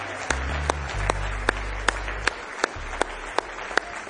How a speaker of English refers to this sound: Give Him a big hand clap of praise tonight.